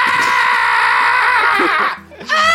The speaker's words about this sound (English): He was screaming at the bugs now and not the daggers yet.